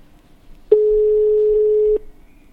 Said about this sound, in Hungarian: Halló, halló? Még csak csöng, várjuk, reméljük, hogy ott van.